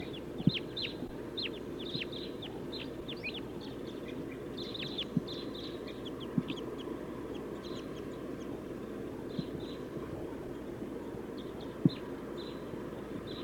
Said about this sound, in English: They took off. Five, seven crossbills. Or maybe nine. They're circling. coming back.